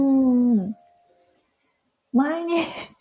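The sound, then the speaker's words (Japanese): Two drawn-out, falling howls, fairly loud, separated by a quiet pause, in imitation of a medium-sized dog, a bit larger than a Shiba Inu, howling in response to a fire engine or ambulance. They sound like a human voice imitating a dog's howl rather than a real animal. “前に消防車、 はいはい、 救急車、はい、になんかびっくりして、それに答えるように遠吠え、はい、みたいな人なんですけど、えらい重低音だったんで ちっちゃい癖して、 ちっちゃくは、あ、中型犬、うん、はい、っていうんですかね、柴犬より少し一回り大きい感じなんですけど”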